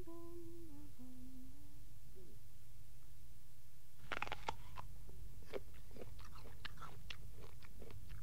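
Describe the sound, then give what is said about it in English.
A woman eating: after a brief snatch of singing, crisp crunching bites and chewing sounds repeat irregularly for several seconds, with no talking. “She's eating.”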